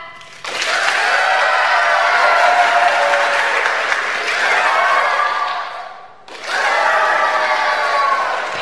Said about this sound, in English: So let's take a moment and practice, shall we? When I raise this applause sign, you clap and cheer, all right? Here we go.